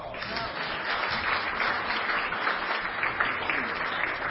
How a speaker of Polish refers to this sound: Szczególnie bardzo miło mi, że po raz pierwszy w historii 10-letniej zabawy żużlowej leszczyńskie prognozy żużlowe zawitały do nas dwie panie. Proszę o oklaski.